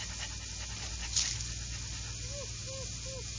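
A dog named Toby, on a leash and sniffing a scent, pants steadily, and a few soft, short whimpers rise and fall near the end, with no one speaking.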